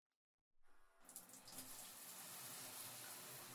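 Running water from a shower head starts after a brief silence and builds into a steady hiss of spray, flowing continuously with no voices, as hair is being rinsed.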